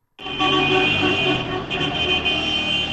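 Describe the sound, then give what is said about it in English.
Car horns blare continuously and overlap, loud, as Syrian Kurds honk in celebration of a deal to stop the fighting, over a steady wash of street and engine noise, with no pauses. “They were honking their horns, they were shooting guns in the air in celebration, and some Syrians told us last night they just wanted the fighting to stop.”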